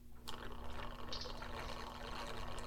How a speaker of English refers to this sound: Hang on 1 second. I have some whiskey to pour.